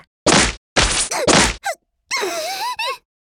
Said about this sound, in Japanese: そら、プレデターラッシュ。 こいつすごいパワーだわ、パンチだけでもこんな。 オラオラオラ。